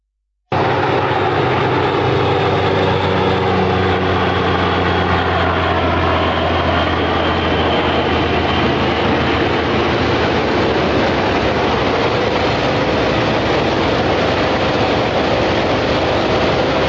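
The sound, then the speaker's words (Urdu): A loud, steady airplane engine roar fills the whole stretch after a brief silent start, with a whining tone that slowly drops in pitch beneath the broad rushing noise. Nobody speaks. “ذرا جہاز والا واقعہ دکھائیے گا.”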